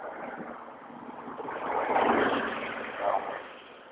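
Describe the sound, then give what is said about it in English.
A broad, rushing whoosh of street traffic swells to a peak as a vehicle passes, then fades, with a second smaller surge just after; steady road hiss underneath, no voices. “Traffic and sprinklers in sync here, so that I have to step into the path of one or the other.”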